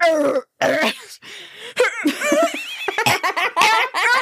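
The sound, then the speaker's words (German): A person imitates a barking, seal-like croup cough: a rapid series of loud, harsh, honking bursts with squeaky, strained tones in between, and no talking. “Also dieser bellende Husten, der ist so einzigartig, dass man den sofort erkennt. Das klingt wie so eine Robbe, die versucht nach Luft zu schnappen.”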